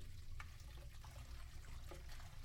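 Steady running water streams from a tap while breakfast dishes are washed, with a few brief clinks of dishes scattered through it. The wash is low and continuous, and no one speaks.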